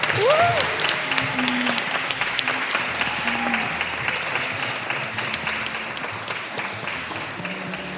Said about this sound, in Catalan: prepareu-vos, col·loqueu-vos, tots a punt, les mans i a la vista, perquè mereix un aplaudiment ben fort i una rebuda com mai l'ha tingut el nostre entrevistat